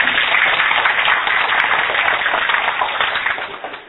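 A crowd applauds steadily for about four seconds, a dense, even wash of many hands clapping that stays loud throughout and eases off slightly at the end. No one speaks.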